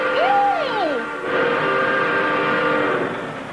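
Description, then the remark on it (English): A train passes loudly at night, its horn sweeping up and down in pitch before settling into a long, steady blare that fades slightly at the end. “George, do you hear that train? Yes, it's unusually loud tonight.”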